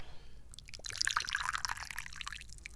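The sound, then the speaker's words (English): Tea pours steadily into a cup for a couple of seconds, a bright splashing trickle that starts abruptly and keeps going, with no talking over it. “Yeah, let's pour some more.”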